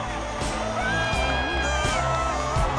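A large stadium crowd cheers in a steady, dense roar as a football team runs onto the field, with scattered whoops and shouted voices rising above it. The noise is loud and continuous for the whole stretch.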